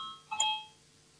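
A single bright electronic bell chime rings out sharply in a parliament to call a vote, with a clear two-part strike and ringing tones that fade within half a second.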